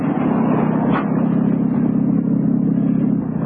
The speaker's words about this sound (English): Pull up outside. Yeah, neat little car